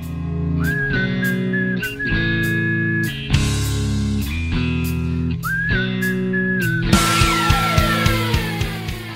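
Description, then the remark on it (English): A bright, steady whistle carries the song's guitar riff over a full band backing, heard in two phrases, with the music playing on beneath and after it. “And then like, also I notice here that I'm assuming it's you, you're whistling the guitar solo.”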